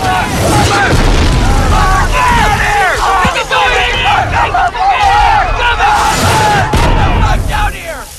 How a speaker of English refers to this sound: There's a large blast nearby.